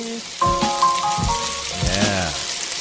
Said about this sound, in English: Frying pan hot, frying pan hot. If you want the sizzle, even just a little bit.